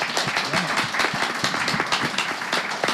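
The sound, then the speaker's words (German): An audience applauds steadily, many hands clapping in a dense, continuous patter that stays fairly loud and even throughout, with no voices standing out. “Kajak hat einen Applaus bekommen, auch für das.”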